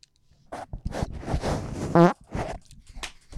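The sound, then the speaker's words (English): A run of short, sputtering bursts of noise, then one loud, buzzy, drawn-out fart that stands out before a few more ragged puffs follow. Fairly loud, with no talking. “I swear to God, if he farts one more time.”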